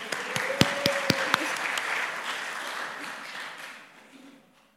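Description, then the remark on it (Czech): A crowd breaks into applause for a man's birthday, a dense wash of many hands clapping with a few sharp, louder claps standing out early on, then gradually thinning and fading out over several seconds. “Mimochodem, můj muž má dneska narozeniny, můžeme mu zatleskat.”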